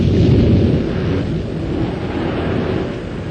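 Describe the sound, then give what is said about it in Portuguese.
A loud, continuous roar of terrible wind and furious sea, heavy low rumbling with a constant wash of noise and no voices, steady throughout. “Serão o mar e o vento mais poderosos que a vontade de meu pai que os criou?”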